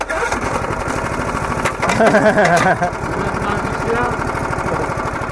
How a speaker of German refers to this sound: Ein Junge versucht verzweifelt, den Motor eines kleinen roten Rasenmähers zu starten. Doch die Zündkerze ist alt und verbraucht.